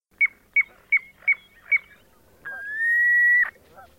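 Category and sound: bird, piping plover call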